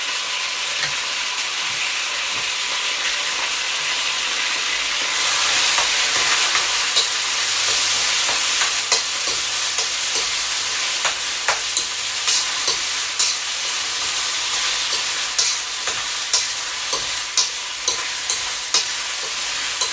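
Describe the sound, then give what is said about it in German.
Meat sears loudly in a hot frying pan, a steady broad sizzle with scattered sharp pops and crackles, continuous for the whole stretch, with no one speaking. “Habe ich hier so ein elektronisches Diktiergerät, Milestone, da stelle ich einen Timer auf 3 Minuten, dass das Fleisch anbraten kann.”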